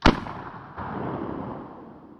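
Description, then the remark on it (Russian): A single sharp rifle shot cracks out in a forest on a clear sunny day, followed by a long rumbling echo that swells briefly and then fades away. No voices. “когда Екатерина была занята сбором хвороста в лесу, она услышала ружейный выстрел”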